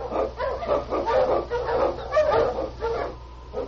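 animal, sled dogs barking

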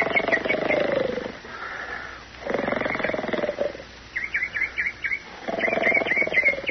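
human body sound, man snoring

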